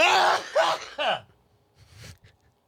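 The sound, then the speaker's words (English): A loud, intense human sneeze, a few explosive bursts in quick succession ending in a sharp falling gasp, followed by quieter breathy sniffs. “Has a sneeze ever been played before on the air?”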